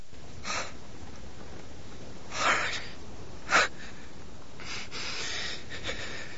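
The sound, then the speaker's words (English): A man gasps in pain as the bloody wound of an incision in his belly is dabbed with a swab, several sharp, ragged intakes of breath spaced out over a few seconds, fairly quiet, with no talking. “As Higgins dabs the bloody wound with a swab, Stephen opens his mouth and gasps.”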